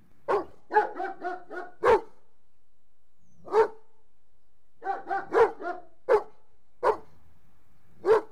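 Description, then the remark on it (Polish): Dogs bark in the distance in the countryside, an irregular run of short yelps and sharper single barks echoing across open space, with brief pauses between bursts and no voices. “Roznoszone się w przestrzeni szczekanie psów.”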